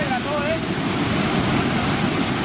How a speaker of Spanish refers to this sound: Sonido de las labores de búsqueda ante la tromba de agua en el municipio granadino de Illora. Se trata de un motorista que fue arrastrado por el agua cuando estaba intentando cruzar un arroyo.